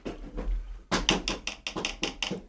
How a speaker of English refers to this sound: There's some big bird out there flying around. It's tapping on our window.